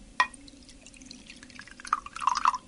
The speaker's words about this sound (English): Yes, we've got some bicarbonate of soda over here. We've put it into a glass full of water so that we can put mixed in more easily. I swirl that round a bit and tip that into the glass.